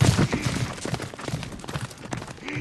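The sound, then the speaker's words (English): A horse gallops toward the listener in a 3D movie clip, a rapid, uneven drumming of heavy hoofbeats, loud and continuous, with a brief rising tonal swell near the end and no talking. “Okay, so 3D doesn't work so well on the radio, but just imagine that horse is coming right at you.”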